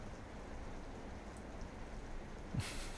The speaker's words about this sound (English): Because the rain's coming down. Which means it started. Yeah, and the wind's starting to pick up as well.